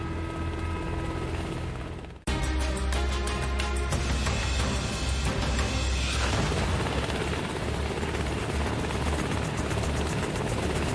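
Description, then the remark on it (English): Loud Coast Guard helicopter rotor noise during a rescue hoist of an injured man in a litter from a small boat fills the whole clip, a dense rhythmic thudding and whine that briefly dips near the start, then roars on steadily without any speech. “It's a treacherous ride coming up any kind of rescue device into a Coast Guard helicopter.”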